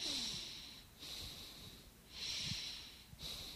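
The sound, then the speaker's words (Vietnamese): A voice gives an exaggerated demonstration of forced, strained breathing, shown as what not to do while counting breaths in meditation: loud, hissy inhales and exhales repeating in a slow, steady rhythm, with no talking. “Phải để hơi thở tự nhiên, không có ráng. Quý vị đừng có làm vậy.”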